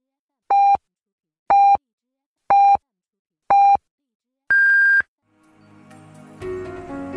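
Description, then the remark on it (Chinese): Four short, evenly spaced electronic beeps sound about a second apart, followed by a longer, higher-pitched final tone, the hourly time signal marking 12 noon Beijing time on the Chongqing University of Posts and Telecommunications Sunshine Campus radio station. Music then swells up right after. “现在是北京时间正午12点整，您收听到的是重庆邮电大学阳光校园广播台。”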